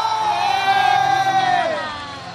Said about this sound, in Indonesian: Emang pada saat latihan tadi, boleh-boleh-boleh tepuk tangan untuk Rara, boleh-boleh-boleh.